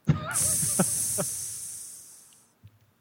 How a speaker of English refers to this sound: If that doesn't exist, if someone hasn't created a fart app with in-app fart purchases...